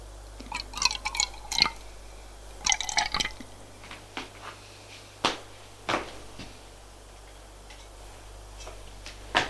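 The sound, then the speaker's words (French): Liquid is poured from a bottle, taken from a bar corner, into two glasses in two short gurgling bursts, followed by scattered light clinks and taps of glass, with no talking. “Prend deux verres et une bouteille. Revient. Et fait le service.”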